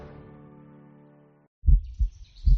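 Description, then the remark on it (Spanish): In a COPE más Valencia radio promo for World Environment Day on June 5, a sustained, humming musical tone fades out, then a deep heartbeat thumps in, with a lub-dub pair followed by another heavy beat and a faint high shimmer above. “El 5 de junio, COPE más Valencia se une al latido del planeta.”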